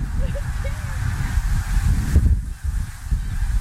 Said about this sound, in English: Well, that means a lot of geese. Look at them out there. See them? Yep. Let's go up there. Oh, look, there's geese.